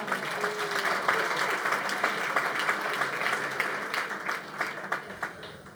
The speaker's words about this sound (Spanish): Y de repente, ayer estuvimos con … acá, el autor del …, un aplauso para él.